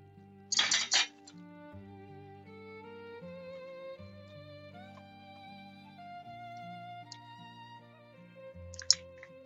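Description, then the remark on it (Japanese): Washed dishes clatter and clink together as they are put away, in a short burst near the start, with one more brief clink at the end, while soft background music plays throughout. “食器を洗い終わったやつが出しっぱなしなのでこれしまいます。”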